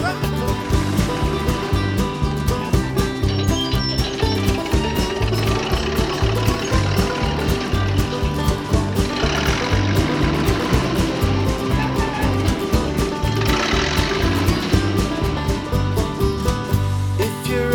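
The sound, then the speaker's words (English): A tractor engine runs loud for the whole stretch, a steady rhythmic diesel chugging with a rough knocking pulse, briefly revving harder twice. “They have great big engines, and this is what they sound like.”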